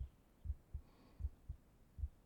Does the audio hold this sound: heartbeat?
yes